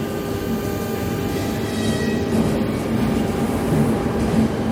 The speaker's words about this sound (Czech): Ještě, než opouštíme studenou halu Prměnského nádraží a nastoupíme na vlak směrem do Prahy